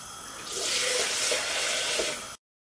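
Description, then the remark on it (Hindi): Water pours steadily into a cooking pot for about two seconds, a loud, hissing gush that starts abruptly and cuts off cleanly, with no voices; three to four large mugs of water are being added to bring the pot to a boil for gravy. “तो let's just wait for the boil और पानी मैं भी ऐड कर रही हूँ आपके सामने.”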